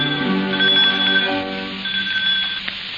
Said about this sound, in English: We hear the sound of the doorbell, an old-fashioned pull bell, whose continued tinkling surprises Miss Susan.